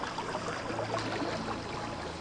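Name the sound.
flowing river water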